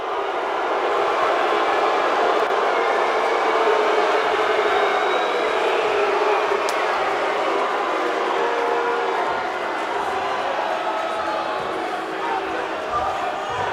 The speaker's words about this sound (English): Hey, Dallas, shut the fuck up. Y'all keep booing, I'ma keep doing.